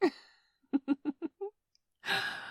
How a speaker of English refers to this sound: You're actually panting.